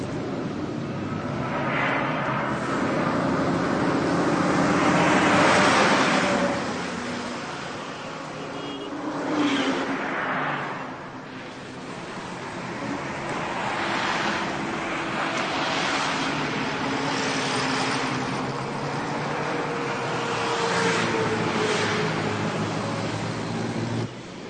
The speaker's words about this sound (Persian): محمود آقا میره کنار رودخانه آرامی که همون نزدیکی ها جریان داره